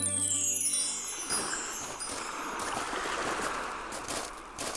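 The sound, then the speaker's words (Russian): Water of the Sea of Marmara at Izmit, Turkey, splashes and laps steadily at moderate loudness in the sunshine, a continuous wash of watery noise that follows a brief fading tonal chime at the start. No voices. “А вон море плещется, красивое такое, переливается на солнышке.”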